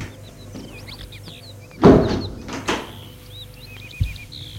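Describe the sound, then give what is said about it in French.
A door on the front steps of a house opens with a creak and a couple of scraping bursts as a servant shows a visitor in, then a soft thud, while small birds chirp and tweet steadily in the background. No one speaks. “Le faire entrer par une porte qui se trouve sur le perron.”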